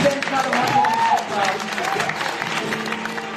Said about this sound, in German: Können wir den Leuten einen riesengroßen Applaus geben?